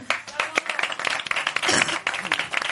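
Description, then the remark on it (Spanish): A crowd applauds with dense, rapid clapping that swells and stays steady for a few seconds, with scattered voices and cheers mixed into the ovation. “Aplausos a todos los cuentavientes.”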